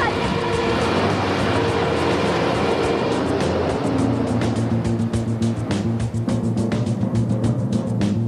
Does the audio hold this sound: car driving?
yes